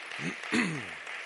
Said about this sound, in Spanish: Dale un fuerte aplauso al Señor por su palabra.